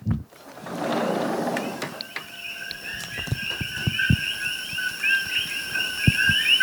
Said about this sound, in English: Okay, so these are these invasive koki frogs. They're native to Puerto Rico, but they're called koki frogs from what I remember because they go koki, koki. And I'm on the Big Island. I'm near Hilo right now.